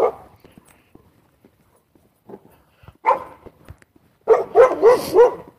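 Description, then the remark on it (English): A dog barks, a quick run of four loud, sharp barks near the end, after a stretch of faint rustling and one shorter bark-like burst. “Hello, dog.”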